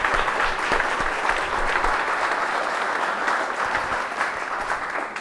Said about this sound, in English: I especially don't want to forget to thank the organizer of this festival, and we can applaud, obviously. There you go.